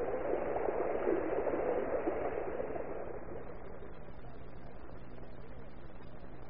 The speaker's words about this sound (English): And so, riding on the crest of the current of water from the hose, Big Annie, sputtering and swearing, was washed out of the door.